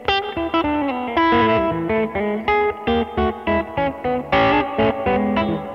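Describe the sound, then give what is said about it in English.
An electric guitar plays a run of strummed chords and sustained notes drenched in heavy reverb, each attack blooming into a washy tail, fairly loud with no talking. “Like, it's just a really malleable reverb that I find like I can do a lot with.”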